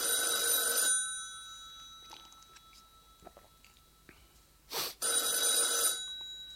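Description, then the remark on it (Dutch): A telephone bell rings loudly in two long bursts separated by a pause of several seconds, with faint clicks and small handling noises in between. “Dat lijkt wel de telefoon. Ja. Het is de telefoon.”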